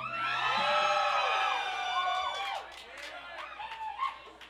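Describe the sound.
An audience at a bluegrass show screams and cheers, many high, sustained voices layered together loudly for a couple of seconds, then thinning into scattered shouts and whoops.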